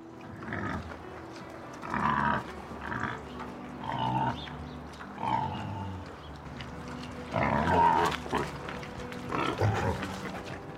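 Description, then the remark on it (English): Several wild boars grunt and growl roughly and ferociously in repeated bursts while eating grain fed to them, with snuffling and the rustle of grain between calls, moderately loud, in Aranjuez. “Your Majesty, as you ordered, I fed the wild boars with grain, which was eaten with great ferocity and growling.”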